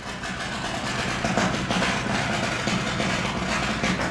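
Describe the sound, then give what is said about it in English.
Steel being ground on a nearby boat at a shipyard in Fairhaven as painters prep it for painting: a steady, harsh mechanical roar with a low droning hum beneath, holding at an even level for the whole stretch without any talking. “you can hear the grinding of steel on a boat nearby as painters prep for painting.”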